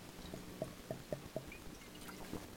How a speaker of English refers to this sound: I'm going to take a little sip of water for you.